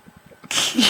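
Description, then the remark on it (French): A single loud sneeze bursts out abruptly after a brief quiet moment with faint murmuring, its breathy hiss sustained to the end. “On éternue en orgasme.”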